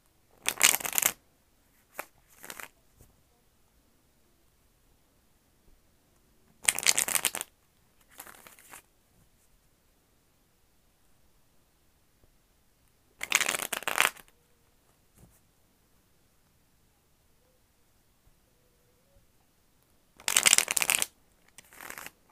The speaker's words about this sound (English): I'm going to do a quick shuffle just to clear out any energy from my cards.